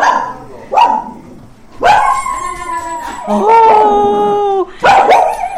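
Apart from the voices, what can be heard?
dog barking in greeting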